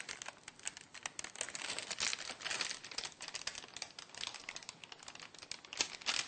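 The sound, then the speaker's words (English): Parchment paper crinkles and crackles steadily as it is slowly lifted and peeled away from sticky cookies, a dense stream of small dry snaps for several seconds with no talking. “And then to remove them, I'll just lift it up very slowly, and they can be really sticky.”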